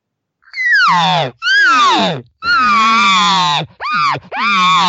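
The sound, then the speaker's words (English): Five loud, urgent, demanding cow elk calls in quick succession, a cow wanting a bull to come over, each a whiny, nasal mew that starts high and slides downward, with short gaps between them and no talking. “Well, this is what the elk do to each other. They're changing their tone or emotion of the sound. So here's what this cow would do.”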